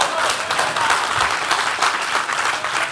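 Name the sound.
audience clapping hands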